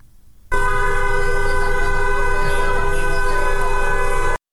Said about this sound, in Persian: در میدان تجریش تهران هم گروه‌هایی از دخترانی که حجاب از سر برداشتند با همراهی پسران دست به راهپیمایی در منطقه زدند و خودروهای عبوری نیز با بوق‌های ممتد از اقدام آنها حمایت می‌کنند.